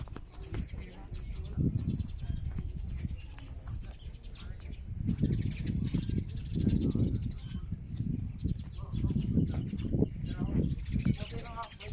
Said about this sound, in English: It's very quiet. It's very, very quiet. Except for the sounds of the birds. I don't know if you can hear that.